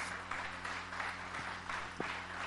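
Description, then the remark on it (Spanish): An audience applauds God in a dense, continuous wash of clapping that holds steady throughout, over a low background hum, with no one speaking. “Ahí le tiene que dar un aplauso fuerte a Dios.”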